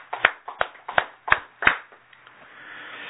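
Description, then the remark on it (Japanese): Applause from an audience celebrating a child's first birthday comes through as five sharp, evenly spaced claps over about a second and a half, then fades into a low, steady background hiss with no talking. “満1歳を迎えられましたので、盛大な拍手でお願いしたいと思います。”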